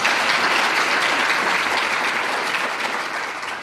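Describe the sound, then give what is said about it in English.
Sustained audience applause at a City Club of Boise public forum, a dense, steady wash of many hands clapping at once, holding at a fairly loud level throughout before easing slightly at the very end. “Would you join me in thanking our audience?”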